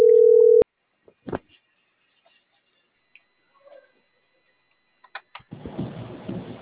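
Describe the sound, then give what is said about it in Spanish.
A loud, steady telephone line tone sounds briefly while waiting for the call to be answered, then cuts off abruptly, followed by scattered faint clicks and taps, then a rush of noisy handling at the end. “Sí, así es, joven, dígame, disculpe, el teléfono este tarda mucho en contestar.”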